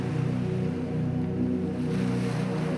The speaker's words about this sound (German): Atme nun nochmal tief durch und lass dich von den stürmenden Wellen in die Traumwelt tragen.